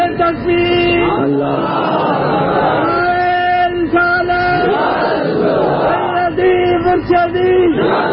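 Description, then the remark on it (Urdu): A large crowd chants the religious slogan Na'ra-e-Ghausia in loud unison, voices rising in repeated sustained shouts with brief pauses between calls, continuing for several seconds. “نہیں, نعرہ غوثیہ تاکہ پتا چلے. دو تین نعرے لگے مگر جب لگے پتا چلے عاشق بیٹھے.”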